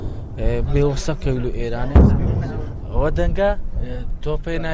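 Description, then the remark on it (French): A single heavy cannon boom from Turkish tank cannons firing shells at Daesh on the front at Mosul lands partway through, a deep thudding blast under steady talking voices, with background rumble throughout and no further shots. “Ça, c'est les canons des Turcs qui tirent des obus sur Daesh, et Daesh nous tire dessus.”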